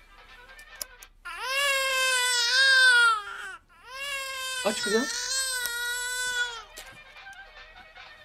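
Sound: baby crying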